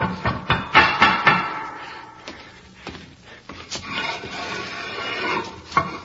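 Sharp knocks on a wall, a quick burst of several thuds at first, then scattered single raps with quieter rustling between them.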